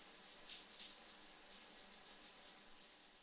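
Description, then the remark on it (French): A shower tap runs with a steady, continuous hiss of falling water, even and unbroken throughout, fairly soft and with no voices, after the tap is turned on and the water is left to heat up. “Xavier ouvrit le rideau, tourna le robinet et attendit que l'eau chauffe pour s'y glisser avec satisfaction”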